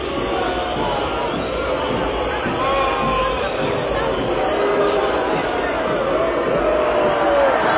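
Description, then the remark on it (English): A huge arena crowd roars steadily throughout, a dense wall of cheering, booing and shouting voices with occasional whistles rising above the din, loud and unbroken from start to finish. “Listen to this crowd. It sounds insane.”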